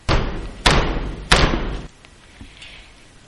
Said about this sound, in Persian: این بار کیه داره در میزنه؟